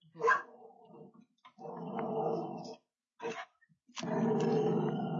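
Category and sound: animal, dog growling and barking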